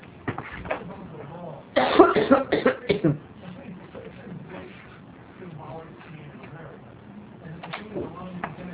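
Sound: coughing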